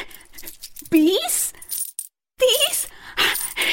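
Coins given by a king clink and jingle in a few bright metallic bursts as Shravan Kumar counts them, with a short pause between them and a ringing tone as they settle; no one speaks.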